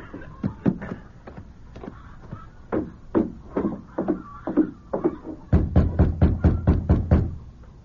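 Knocking on the door of a large ranch house at the Bar F Ranch: sharp raps come in uneven bursts at first, then a quicker, steadier run of about nine firm knocks with a low rumble beneath. No one speaks.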